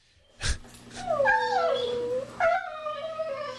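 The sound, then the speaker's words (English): A dog whimpers in long, wavering, high-pitched whines, one drawn-out cry sliding downward, then a second rising whine, after a brief sharp click at the start. No one speaks. “I think the dog's still in the background.”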